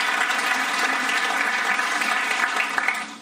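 Audience applause: a dense, steady wash of many hands clapping at an even, loud level throughout, tapering slightly at the very end, with no voices heard.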